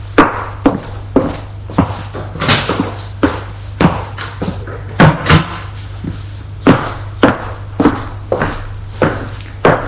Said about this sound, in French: Il donne un pourboire au chauffeur, qui se retire, et lui prend ses bagages pour les rentrer et ferme la porte de l'appartement.